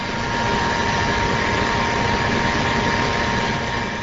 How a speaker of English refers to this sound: This is a large 600-horsepower engine not far from the four cow barns at the farm. It burns the methane gas coming off two very large enclosed tanks where all the manure is collected after traveling from the barns through underground pipes.